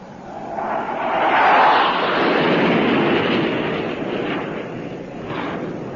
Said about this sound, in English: What is it, Daddy? What is it? It's an airplane. I'll never forget that sound.